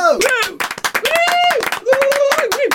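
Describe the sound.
Lively applause, a dense patter of claps running the whole time, mixed with loud high-pitched whoops and drawn-out cheering voices rising and falling over it.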